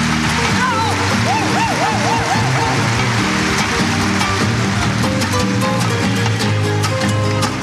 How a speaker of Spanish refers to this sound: ¡Ese aplauso!